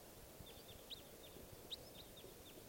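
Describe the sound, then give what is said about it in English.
A run of short, sharp calls from a wild type 4 crossbill coming into decoys repeats every fraction of a second, fairly faint, over a steady low rumble of background noise with no voices. “there's a wild type 4 crossbill around here. And it's coming into the decoys now.”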